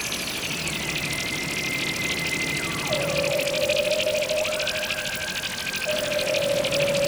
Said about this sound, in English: Later, I am traveling in the flatbed of a truck.